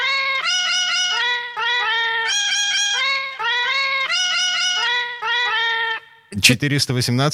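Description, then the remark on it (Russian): A string of cat meows arranged into a melody, each note a clear harmonic meow in a steady musical rhythm, loud, ending with a brief burst of a different, noisier sound. “Еще раз послушаем, что, собственно, напели нам коты.”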